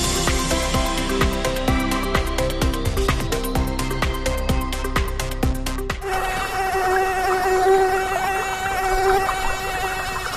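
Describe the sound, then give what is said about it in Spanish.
A steady, high-pitched buzz of a tiger mosquito, an invasive species, drones on without a break, sharing its first half with rapid rhythmic pulses before carrying on alone. “Este que escuchas es el zumbido de un mosquito tigre, una especie invasora que fue detectada por primera vez en Galicia este año en el concello de Moaña.”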